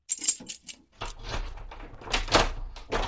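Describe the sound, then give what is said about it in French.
A huge bunch of keys, found in a hangar, jangles in a few sharp metallic bursts, followed by a longer rattling shuffle with faint low rumble underneath. “Ils ont pris avec eux l'énorme trousseau de clés retrouvé dans le hangar.”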